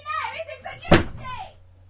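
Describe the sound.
A single loud door slam, a sharp thudding bang that cuts through talking voices, which carry on quietly before and after the impact.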